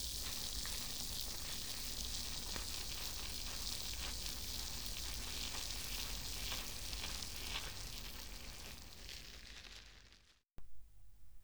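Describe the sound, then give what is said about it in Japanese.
Carbonated shampoo foam fizzes and crackles as it is whipped, a dense, bright hiss of tiny popping bubbles that runs steadily for about ten seconds before a brief break near the end. “炭酸たっぷりの泡を作っている音も、楽しんでくださいね。”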